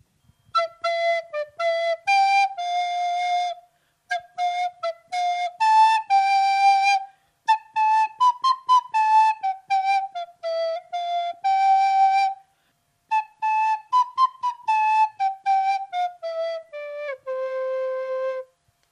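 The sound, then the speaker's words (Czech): A bright shepherd's folk whistle, played while tending sheep on a hillside, plays a lively melody in short phrases with brief pauses, the notes clear, some ornamented with quick trills and slides, ending on a lower held tone. “Naučil se hrát na píšťalku a když hlídal ovečky ve stráni, vyhrával jim, aby se jim lépe páslo.”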